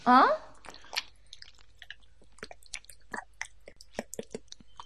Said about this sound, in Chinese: 你在干嘛？妈的，你还在舔我的脚啊？